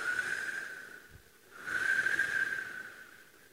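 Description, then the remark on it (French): Two long, steady, breathy whistles, apparently made by a person, fairly loud, separated by a brief pause, with an airy hiss underneath and no talking. “Mais ça siffle, vois-tu, jour et nuit, ça siffle, comme ça, oui.”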